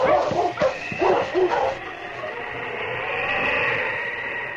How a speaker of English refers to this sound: The big husky slowly circled, searching for the scent. Then, where a branch trail, now hidden by the snow, turned to the left, the big dog stopped and barked.